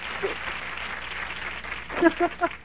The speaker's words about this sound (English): What are we applauding Lacey for? Like, seriously? Lacey?